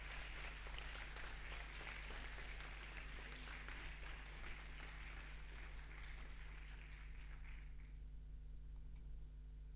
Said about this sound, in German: Und wir starten mit den Präsentationen mit der ersten Gruppe, die heißt Instant Mail. Ich bitte euch auf die Bühne. Einen großen Applaus.